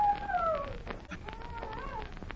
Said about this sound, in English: Yes, I hear it. It's a howling dog. Well, it adds atmosphere, doesn't it? I'll say it does. It also adds goose pimples. That howling dog seems to come from over near that lone pine. I thought dogs only howled at the moon.